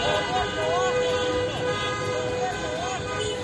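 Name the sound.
car horns honking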